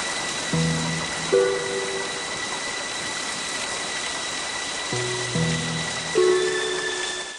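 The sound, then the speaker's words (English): Heavy rain pours down in a steady, dense hiss that fills the whole recording, with a few low sustained tones swelling briefly beneath it near the start and toward the end. “Despite the rain, small fires still litter the brooding landscape.”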